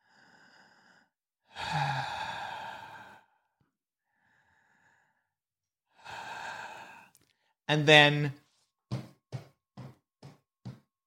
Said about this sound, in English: Where you saw the two barrels in the cloak, you heard breathing and then something walk away. It was big and heavy, whatever it was.